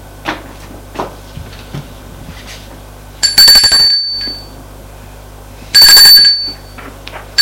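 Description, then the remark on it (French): A doorbell rings twice, each a short, loud, rattling electric ring with a bright metallic tone, separated by a pause of about two seconds. A few faint soft knocks come before it. The father is ringing at the mother's door. “C'est le père qui sonne.”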